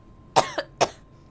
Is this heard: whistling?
no